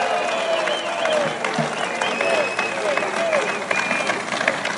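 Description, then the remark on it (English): A large crowd roars with sustained shouting and chanting of the name "Lou" for Lou Barletta, not booing, a dense, steady wall of cheering that stays loud throughout the few seconds, with a few individual voices rising above the din. “And they're shouting, I'm saying this for the media, they're shouting Lou. They're not booing.”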